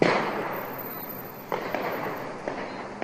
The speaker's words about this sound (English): The sound of gunfire echoed through the downtown area, as recorded by a bystander